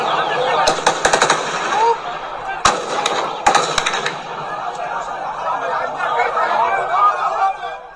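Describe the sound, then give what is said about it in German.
Mobile phone recording from Beirut: rapid bursts of automatic gunfire crack out in quick clusters during gunfights, with scattered single loud shots between them, over a dense background of shouting voices that continues throughout. “Jüngst kam es dort erneut und vermehrt zu Feuergefechten und Schießereien.”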